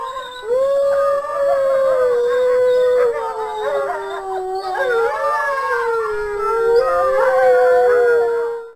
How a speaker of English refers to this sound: Let's start with the wolves, I suppose. Everyone knows wolf howls. Let's go with wolf howls.